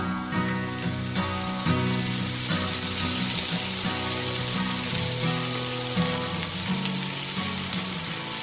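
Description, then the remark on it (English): Food sizzles steadily in a frying pan, a loud, continuous crackling hiss with fine pops throughout, while a low tune plays faintly underneath. Nobody speaks. The sound is the cue for the Friday 10 o'clock radio segment 'The Frying Pan'. “It's the frying pan.”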